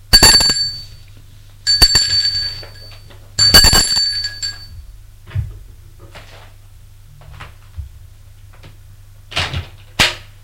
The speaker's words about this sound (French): Arrivé à un étage, Robert sonne à une porte.